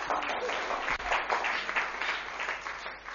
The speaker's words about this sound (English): Thank you. A big round of applause to my helpers.